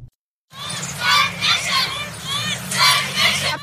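105 female international students from Khyber Pakhtunkhwa, Pakistan, protest in Islamabad, chanting together in rhythmic, high-pitched bursts, voices rising and falling in repeated shouted phrases over a steady low rumble, after a brief silence; they ask the UN and Pakistan's government for help to continue medical and dental studies in Afghanistan.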